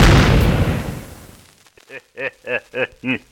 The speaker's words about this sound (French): Sacré artiste, ça a marché. Cette explosion les a fait déguerpir.